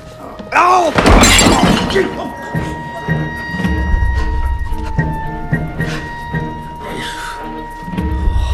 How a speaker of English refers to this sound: He smashes a window, gets on the ledge, and falls inside.